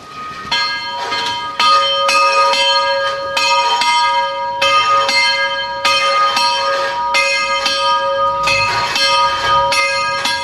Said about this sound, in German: Für mich ist es besonders, dass eine Glocke, die in den 70er Jahren automatisiert wurde, jetzt durch einen Glöckner, durch einen Mensch, wieder eine ganz andere Bedeutung bekommt. Also es ist eine enorme Steigerung für mich, ein sehr sinnlicher Klang